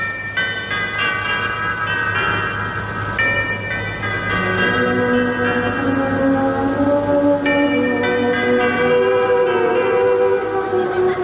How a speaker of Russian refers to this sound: Перезвон курантов в 6:00 вечера после войны.